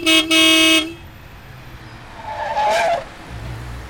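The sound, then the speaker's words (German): A loud car horn blasts in two quick bursts, followed a moment later by a short, shrill squeal of tires as a huge four-wheeled vehicle skids to a stop about a foot in front of a pedestrian crossing the road, with a low engine rumble underneath. “Ein vierrädriges Ungetüm, in Ausmaßen, wie ich es noch nie gesehen hatte, hielt quietschend nur ungefähr eine Fußlänge vor mir.”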